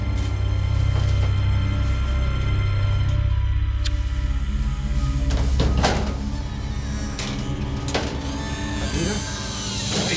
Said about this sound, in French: Avec la plus grande prudence, ils débloquèrent les portes de l'armoire.